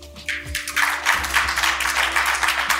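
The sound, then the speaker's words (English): A debate audience answers a question by a round of applause, a dense wash of many hands clapping that builds within the first second and holds steady, moderately loud, with no voices over it. “I'm going to have a second follow-up question, but the first question, by round of applause, how many of you changed your minds from yes to no or no to yes on this question today?”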